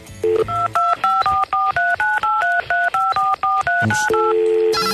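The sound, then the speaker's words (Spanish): A rapid, steady run of about a dozen touch-tone beeps as a phone number is dialed to reach the El Gallo answering machine, each short dual-pitched tone clear and loud, with a few clicks before and after and no talking. “Vamos al contestador a ver cuáles son estas opciones que brindan a la gente que tiene protestas o que quiere llevar su activismo hacia otro lado.”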